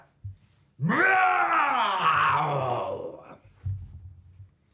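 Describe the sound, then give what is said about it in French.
A person imitates a lion's roar with one long, rising and then falling growl lasting about two and a half seconds, loud and throaty with rich harmonics, followed by a few soft thumps. “Et il a fini par rugir.”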